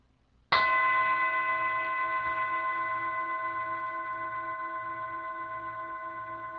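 A single clear strike of a meditation bell rings out loud, its bright harmonic tone sustaining and slowly fading over several seconds with no talking, rung to begin a guided meditation.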